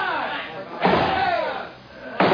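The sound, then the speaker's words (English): A door is battered with heavy blows: two loud, booming slams about a second and a half apart, with voices shouting and clamoring underneath. “They're breaking through.”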